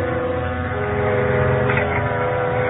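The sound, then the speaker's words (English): A self-service elevator, summoned with the buzzer from a lobby, runs with a steady, droning mechanical hum, a faint tonal whine layered over a low rumble, holding at an even loudness with no voices. “The elevator was upstairs somewhere where the girl had just taken it, and I rang the buzzer for it.”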